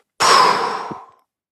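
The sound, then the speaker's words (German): A single forceful exhale through the mouth during a breathing exercise, after inhaling through the nose for four counts and holding briefly: a loud breathy whoosh that starts abruptly and trails off over about a second, with no talking. “Also wir versuchen im Idealfall über die Nase einzuatmen und dann atmen wir stoßartig durch den Mund aus.”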